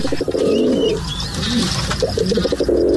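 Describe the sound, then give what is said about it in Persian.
Pigeons coo in low, throaty bursts, a soft pulsing rhythm that pauses briefly and then resumes, with faint higher chirps of other birds in the background. “مدت‌های طولانی است که ما می‌دونیم که پرنده‌ها میتونن مسیرهای خودشون، به خصوص کبوترها میتونن که مسیرهای مشخصی رو یاد بگیرن، از جمله کبوترهای نامرسان از دوران قدیم مورد استفاده قرار می‌گرفتن به روش‌های مختلف.”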